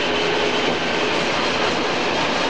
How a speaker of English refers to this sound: The rails are very slippery now, the wheels are picking up badly. The heavy old train. I've got to ease the power down a bit and just let him cruise along quietly at his own pace.